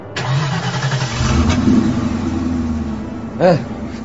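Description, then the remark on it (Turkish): A truck loaded with nitro cranks and starts up, settling into a loud, rumbling run with a brief rev of the motor near the end. “Hadi çalıştır bakalım kamyonu.”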